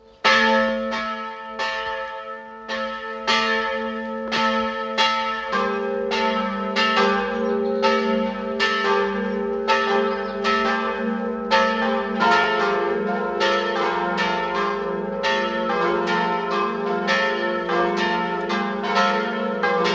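Parish church bells of Werfenweng, Salzburg, Austria ring steadily at noon for the full length, overlapping peals with strong harmonic tones and regular strikes, loud, with no voices.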